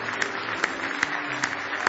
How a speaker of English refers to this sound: Give the Lord a big hand clap of praise this morning.